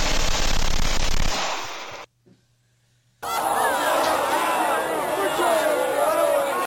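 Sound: angry crowd shouting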